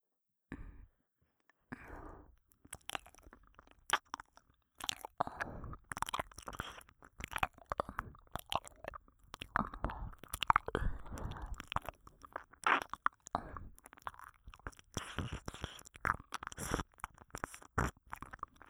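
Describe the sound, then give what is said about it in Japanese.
ASMR ear licking: a steady stream of soft, wet smacks, slurps and clicks in an irregular rhythm, lasting throughout with no talking. “耳なめで、さらに固くしておきましょうか。”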